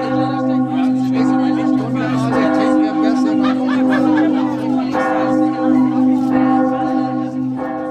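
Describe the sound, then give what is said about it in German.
The large church bell of Helgoland tolls at midnight to ring in the national holiday, its deep ringing tones sustained and overlapping, with faint crowd murmuring and occasional soft laughter from people in the churchyard. “Um Mitternacht läutet die große Helgoland-Glocke den Nationalfeiertag ein.”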